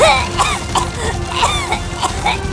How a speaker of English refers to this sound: The heat of the fire was almost unbearable, and the smoke nearly impenetrable. It took her by the throat and triggered a coughing fit.